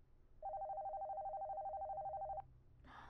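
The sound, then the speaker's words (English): A telephone rings once, a loud, steady warbling electronic tone lasting about two seconds before cutting off, with no one talking over it. “I'll tuck you in after I get the phone.”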